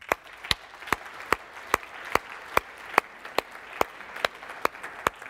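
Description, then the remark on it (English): A church audience applauding themselves: a steady wash of clapping with sharp, evenly spaced claps standing out in a regular beat roughly twice a second, moderately loud and with no talking. “And I'd like you to all clap yourselves because you have done an amazing job this year.”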